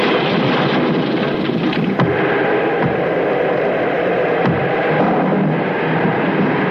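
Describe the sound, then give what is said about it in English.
Steady, loud storm noise of rushing wind and pouring rain, with a couple of brief sharp cracks of thunder breaking through the constant roar. No voices are heard. “By morning, the storm will have blown over, I'm sure.”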